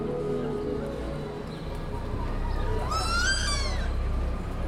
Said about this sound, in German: Möwen fliegen über die Dächer des Stockholmer Stadtteils Södermalm, picken Kuchenreste von den Terrassen der schicken Cafés.